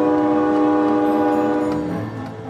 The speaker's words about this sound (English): But very quickly, people begin to embrace that sound as a kind of progress. And then after that, the sound of the train becomes quickly incorporated into the fabric of American nostalgia, especially a steam engine.